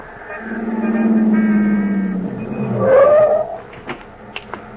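vehicle, car driving off

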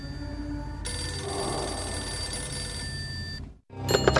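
signal or alarm, telephone ringing

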